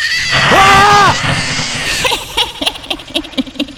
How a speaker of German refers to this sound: Ein bisschen Lärm und du kriegst Angst. Oh Mann, mein Puls rast wie verrückt. Dabei war es doch nur ein blöder Schrei.